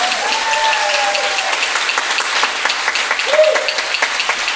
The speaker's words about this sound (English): Thank you so much for coming to celebrate the 150th anniversary of St. James Westminster. Let's have a round of applause for that.